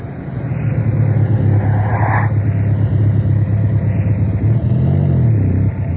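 A car engine rumbles steadily as the vehicle drives, its low drone shifting in pitch near the end as it slows and pulls up. No voices are heard.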